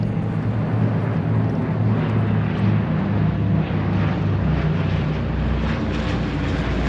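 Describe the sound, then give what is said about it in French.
A small observation plane's engine drones loudly and steadily as it dives toward the Cao Dai temple around 1 p.m., a continuous rumble with a buzzing low hum and faint wind rush, no voices. “Vers 13h, un petit avion d'observation descend en piqué en direction du temple Cao Dai.”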